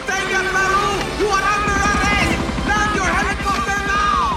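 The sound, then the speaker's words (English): Steady police helicopter rotor chop thumps in and grows stronger beneath loud, swelling orchestral music, the blades pulsing rapidly as the aircraft closes in. “A police copter closes in on Peru's.”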